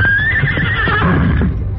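A horse, Silver, the Lone Ranger's horse, whinnies loudly in defiance, one shrill, quavering call that holds and slowly drops in pitch for nearly two seconds, with no voices present.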